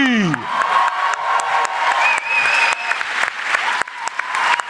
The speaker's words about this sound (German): Und jetzt euer Applaus für unseren irischen Schmusebaden